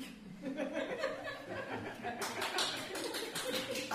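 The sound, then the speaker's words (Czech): An audience breaks into steady, loud applause partway through, dense overlapping claps continuing to the end, after a stretch of scattered chuckles and crowd murmur. “Ne tleskat, přijít sem.”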